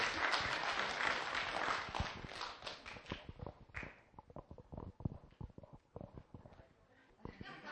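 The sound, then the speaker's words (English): A crowd applauds in a dense, steady burst, then the clapping thins out to a few scattered, individual claps that trail off near the end. “You can clap, that's fine.”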